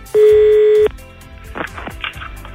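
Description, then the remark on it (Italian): A loud, steady telephone ringing tone sounds once for under a second, then cuts off, leaving a faint, noisy phone line with muffled rustling. “C'ho un minuto per far dire scoiattolo alla persona e verrà a rispondere al telefono.”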